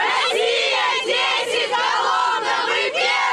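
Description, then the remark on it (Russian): A crowd of Kolomna residents cheers and roars, celebrating the Kolomna Kremlin taking first place in a vote, a loud, continuous wall of many voices shouting and whooping, with brief dips and swells in intensity throughout. “Победу жители города встречают ликованием.”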